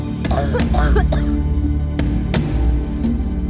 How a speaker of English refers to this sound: But after 10 days, she sees no improvement. The cough was getting worse as opposed to getting better.